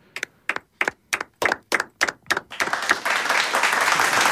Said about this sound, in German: Ich finde, das ist definitiv ein Applaus wert.